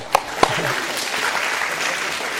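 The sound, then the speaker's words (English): An audience claps steadily, a dense, sustained patter of many hands with two sharper claps standing out at the start and a faint voice underneath. “So, applause for this guy over here in the hat.”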